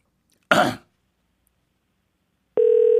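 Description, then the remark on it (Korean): A brief throat clearing, then quiet, then a steady, buzzing telephone ringing tone starts up clearly and continues to the end. It is heard on an outgoing call placed by Jung Jun-ha for a song-guessing quiz on the radio programme Singlebungle Show. “전화를 받으면 노래를 듣고 누구의 노래인지 맞춰주시면 됩니다.”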